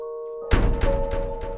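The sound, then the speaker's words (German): A steady tonal hum gives way to the heavy door of a portal slamming shut with a deep thud, followed by several softer booming knocks that fade out. “Auf einmal fiel die Tür des Portals hinter ihnen zu.”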